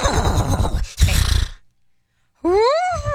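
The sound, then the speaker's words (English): A person does a loud, close vocal impression of a horse neigh in two bursts: a breathy, wavering whinny, a short pause of silence, then a higher, rising-and-falling tonal whinny. “the winning word was horse, and I went around the room with a quick, you know, best horse impression.”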